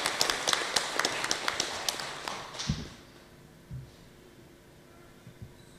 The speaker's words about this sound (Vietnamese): trong lễ cưới tại chùa Giác Ngộ hôm nay, cho một tràng pháo tay để chúc mừng niềm vui chung.